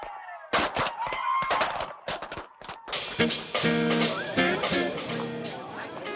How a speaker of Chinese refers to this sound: 你觉得今日嘅烟花点话 ？Well, I guess they were okay, but I was hoping that they would be better. 你觉得仲可以更好啲？但系我觉得佢已经好好噶咯噃。 But there was so much hype about this show.